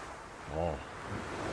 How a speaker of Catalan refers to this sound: Un moment que estic obrint el balcó de casa teva. Sí, és brutal, eh? Jo sento el soroll del mar.